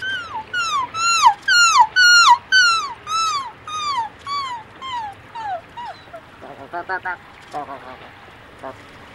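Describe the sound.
A pianist imitates gull calls with the voice: a run of about a dozen loud, descending, wailing cries in steady rhythm, then a burst of shorter, choppier yelping notes.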